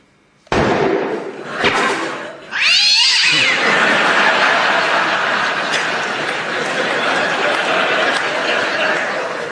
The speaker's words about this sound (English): I'm sorry, but that cat was really getting on my nerves. It's a theatre cat. Theatre cat? Called Lucky.